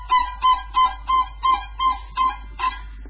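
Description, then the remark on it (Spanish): A voice imitates a southern lapwing's call: eight shrill, strident cries repeated in a quick, steady rhythm, fairly loud and fading slightly toward the end, with no talking. “Buscamos un sonido más grave, buscamos imitar a los animales. Tenemos pájaros, tenemos un tero por ahí.”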